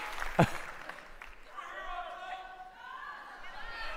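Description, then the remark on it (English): A crowd cheers and claps, a sharp clap or thump standing out early, then sustained whooping voices rising over a steady wash of applause and chatter. “Were people just cheering tug?”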